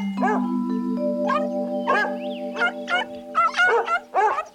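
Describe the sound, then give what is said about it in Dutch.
Several big, hairy dogs in a swimming pool bark in repeated, overlapping bursts that grow busier toward the end, loud, over a steady held musical tone. “Grote, harige, blaffende honden.”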